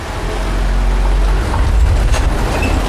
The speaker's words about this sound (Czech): přijeli jsme autem před ústí hlavní úpadnice, která vede na třetí patro. Tou budeme autem sjíždět do podzemí.